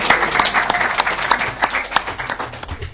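A crowd breaks into steady applause, many hands clapping in a dense, crackling wash that stays fairly loud and even for the full few seconds.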